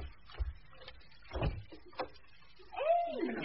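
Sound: door opening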